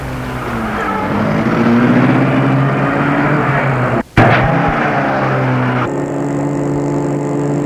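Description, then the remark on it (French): A car engine runs steadily with a low, droning hum as François starts the car and drives, briefly cutting out for a split second midway before resuming as the vehicle keeps driving. No voices. “Et François met la voiture en route.”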